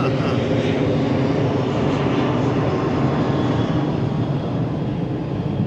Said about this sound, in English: Got a plane. Can we get the plane? There's a plane overhead. There you go.